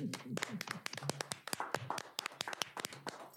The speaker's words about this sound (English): Okay, first, I'd like all of us to applaud these women.